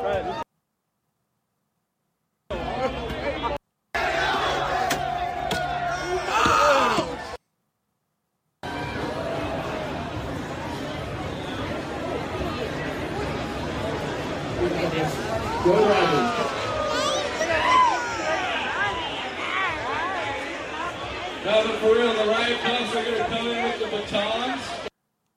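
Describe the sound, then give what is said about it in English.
A large, agitated crowd in downtown Los Angeles shouts and clamors while attacking a Waymo driverless car, a dense, chaotic roar with overlapping voices and scattered yells; brief gaps of silence early on, then continuous loud commotion. “Scenes of large crowds and chaos, basically.”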